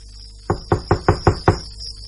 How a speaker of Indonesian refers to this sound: ada yang mengetuk pintu kamarku. Aku lantas terbangun. Berkali-kali ku dengar ketukan dan suara seorang wanita yang cukup lirih.